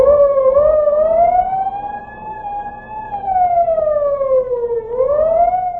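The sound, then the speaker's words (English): A school recess siren at Dead End High School in the San Fernando Valley wails steadily, its pitch rising slowly, holding, then dipping and climbing again in a smooth, continuous tone over a faint low rumble. “Recess.”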